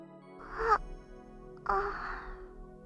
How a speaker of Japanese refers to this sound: ああ。私としたことが、あくびを見せるなんて。よっぽど、あなたのぬくもりが気に入ったのかしら。